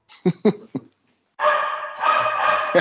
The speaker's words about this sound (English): So I got the dogs in the background.